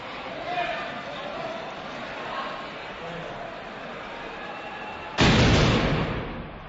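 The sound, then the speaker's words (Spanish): A steady murmur of outdoor background noise, then near the end a loud, sudden volley of ceremonial gunfire bursts out, ragged rather than in unison, its rumble trailing off over a second or so. “hay que estar pendiente que todos le miren y entonces aunar el disparo”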